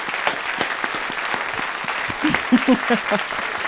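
An audience applauds a guest for his effort in coming, steadily, a dense patter of many hands clapping at a fairly loud, even level, with a few brief voices cutting through near the end.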